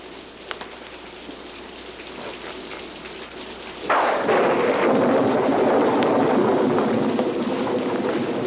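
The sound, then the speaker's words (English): Steady heavy rain that has lasted two hours hisses throughout, then a sudden loud thunderclap breaks in about halfway and rolls into a sustained rumble beneath the downpour. No one speaks. “It'll stop raining. You've been saying that for 2 hours.”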